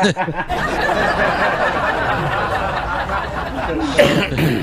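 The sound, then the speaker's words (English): A person breaks into a long, rough coughing fit that blends with wheezy, laugh-like breaths, loud and continuous for several seconds before easing off. “That hurts when you cough like that.”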